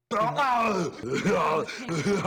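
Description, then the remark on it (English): A voice imitates its own snoring with drawn-out, groaning moans that rise and fall in a few rough pulses over about two seconds, loud and alone. “And that's how I snore.”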